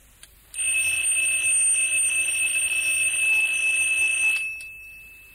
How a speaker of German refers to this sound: Jetzt hole ich mir aus dem Museum den Wecker von Thorstenson.